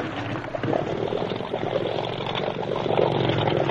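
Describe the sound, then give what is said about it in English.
A boat engine on a river with rapids drones steadily and loudly, a rough, churning motor hum mixed with splashing water that swells slightly toward the end. “Quick, Steve, cast off. Here we go.”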